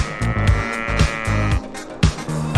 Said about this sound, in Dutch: Je komt hier maar lekker zwemmen met je koeien in de zee. Oké. Wat gaat daar nou voor een rare boot? Nee, dat is een koe.